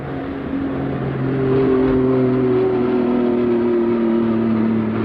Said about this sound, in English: Airplane just flew over.